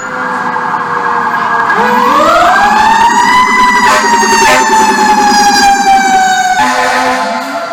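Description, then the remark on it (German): A loud American fire engine siren in Washington, USA, winds up from a low growl into a sustained high wail, then dips at the end, with a heavy engine rumbling underneath and no one speaking. “Ja, so klingt Amerika, Heimat der coolsten Feuerwehrautos der Welt.”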